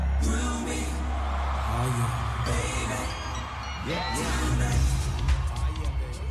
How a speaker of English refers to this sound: And now, he's watching as the crowd at the LA Coliseum go off.